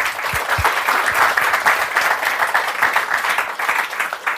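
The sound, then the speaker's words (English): A crowd applauds to welcome two speakers at a book event, many hands clapping in a dense, continuous patter at a loud, even level that runs through the whole stretch without any talk over it. “I always forget not to clap myself at the beginning, just as a reflex action.”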